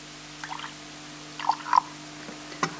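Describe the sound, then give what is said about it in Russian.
A few small drops of Zelenin drops plink into a cup of steaming coffee one after another, soft and unevenly spaced, over a faint steady background hum with no talking. “Разбавляет кофе каплями Зеленина.”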